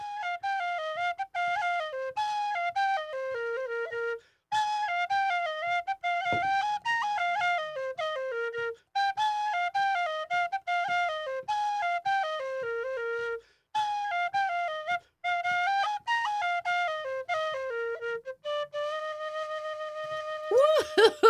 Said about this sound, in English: this wonderful Irish whistle that you're listening to is coming to you live from our studio